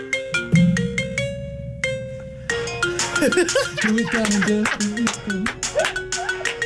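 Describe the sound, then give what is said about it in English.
A mobile phone ringtone rings out loud, opening with bright electronic melody notes before flowing into a fuller, song-like tune with a sung melody, with no talking over it. “You're calling me now. Yep. Let's have a listen to this bad boy on Hit 93.5. Yep. Here we go. It's ringing.”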